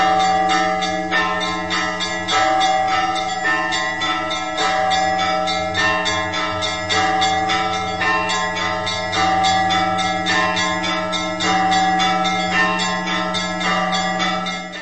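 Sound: church bells ringing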